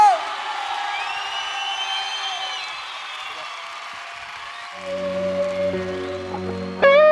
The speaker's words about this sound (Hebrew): חבר'ה, מחיאות כפיים